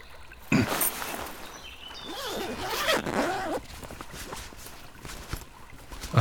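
A bag's zipper is pulled open in a few quick, scratchy strokes, followed by softer rustling and shuffling as hands dig around inside looking for food.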